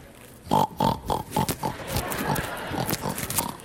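A pig grunts and oinks up close in a quick run of about five short calls, then keeps snuffling and snorting in a rougher, continuous stretch. No one speaks.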